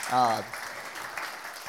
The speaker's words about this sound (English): You can clap.